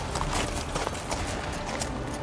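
horse hooves galloping

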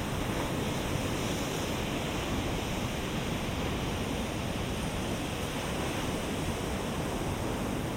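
ocean waves

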